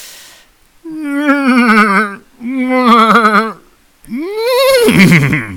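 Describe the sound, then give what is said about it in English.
A person's voice imitates a Wookiee's roar in three loud, warbling bursts, each rising and wavering, ending up sounding more like a horse's whinny than a growl. “Can't really do a Wookiee. I tried earlier. I sound like a horse, so I'll try.”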